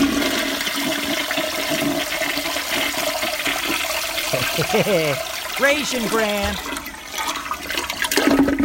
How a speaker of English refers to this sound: We need a toilet flush right now, I think.